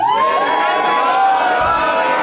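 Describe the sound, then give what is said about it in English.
A live audience at a showroom in Hollywood cheers loudly and steadily, with one woman in the audience giving a high, sustained scream over the top of the noise for the whole stretch. “There's a lady in the audience, wrong reaction, just screaming.”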